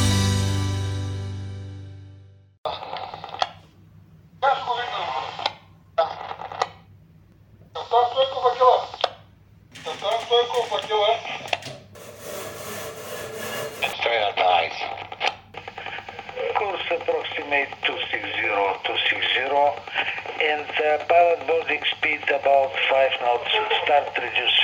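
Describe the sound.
Crackly radio traffic with clipped, band-limited voices that start and stop in short bursts, over a steady low hum, then settling into a continuous stretch of filtered talk, heard at a senior expert's workplace in the vessel-traffic control tower in Burgas.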